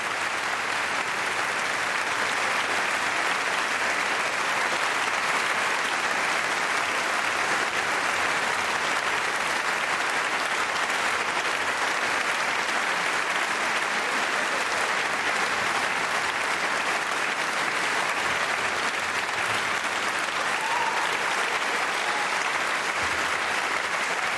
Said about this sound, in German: Sie kriegen hier also ganz großen Applaus an der Kongresshalle zu Saarbrücken.